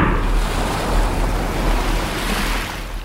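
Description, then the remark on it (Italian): Steady wash of calm sea waves at Stromboli, Italy, in clear weather at about 20 °C, mixed with a constant rush of westerly wind and low rumbling microphone buffeting, continuous and fairly loud with no voices. “Tempo sereno, 20 gradi. Vento da ovest, ponente. Mare calmo.”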